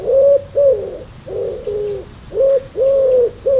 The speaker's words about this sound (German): So klingt eine Taube, die gurren so, ne?